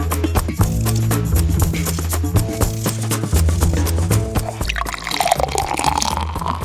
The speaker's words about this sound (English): The sweet sound of a beer being poured. But not just any beer, a tasty craft brew.